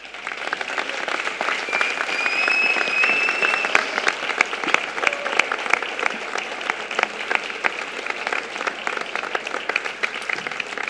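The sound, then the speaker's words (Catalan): Sustained applause from a large audience welcoming Mallorcan film director Héctor Hernández Vicens before a screening of his film Beach House, dense clapping for several seconds, with a couple of faint whistles early on, steady and fairly loud throughout. “Beach House és el tercer llargmetratge que dirigeix, així que el rebem amb un fort aplaudiment.”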